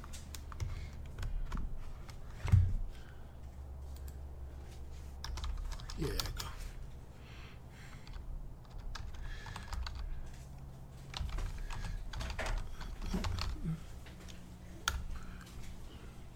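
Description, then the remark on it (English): Irregular bursts of typing on a computer keyboard, sharp key clicks coming in uneven clusters, with a low background hum and occasional faint murmuring. “Oh, for some reason this is not working. Keyboard? Yeah.”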